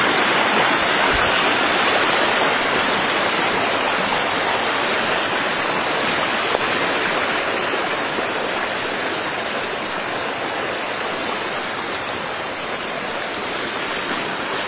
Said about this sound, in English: Creek is really roaring.